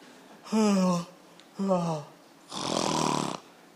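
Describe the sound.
A voice imitates loud snoring: two short, throaty, rattling snorts, then a longer, breathy, hissing exhale.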